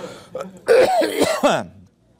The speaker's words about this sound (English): You have to excuse my cough this morning. I promise it's not coronavirus.